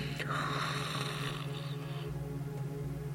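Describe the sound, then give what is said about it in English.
A single deep, drawn-out yawn, made to pull the breath up from deep within, with a long breathy inhale and a low voiced groan underneath, fairly quiet, easing off after a couple of seconds. “Yawn again to pull up that breath.”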